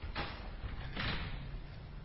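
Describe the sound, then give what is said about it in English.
A door slides open with a broad whooshing rush as people pass through, followed by a second swish about a second later, over a steady low background rumble at moderate volume. “I don't know why these doors are... You're not supposed to be passing through here.”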